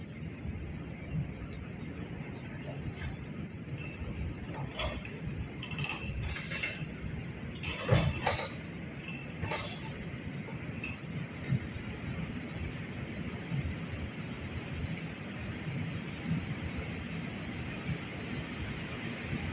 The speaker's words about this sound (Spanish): Ahí se escucha a lo lejos cómo va llenando y sacando el aire de la tubería, porque hay un sistema de aireación.